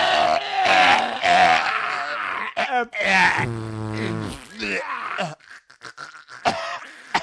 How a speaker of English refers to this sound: He's joining in now, leading him on to greater heights. This is an enormous cough. The audience is joining in. They're on their feet, coughing their